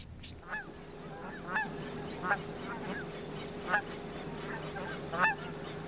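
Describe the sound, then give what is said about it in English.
A flock of geese calling as they fly in during prime viewing, about an hour before sunset, repeated nasal honks rising and falling in a loose, overlapping chorus over a steady low hum. “Traffic is just stop watching the geese come in. They come in from all over.”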